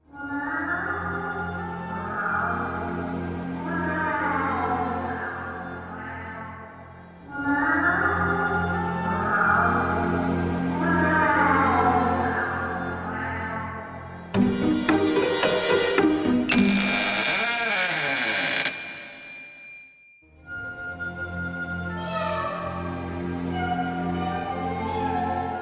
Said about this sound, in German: Und dann schafft ihr es vielleicht zu hören, von welcher Seite das Miauen kommt.